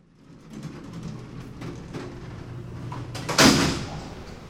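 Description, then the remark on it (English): A heavy metal locked gate at Lemon Creek Correctional Center, a prison in Juneau, rumbles as it slides along its track, then shuts with a loud, sharp clang that rings briefly before fading. “Visitors to Lemon Creek Correctional Center pass through three locked gates.”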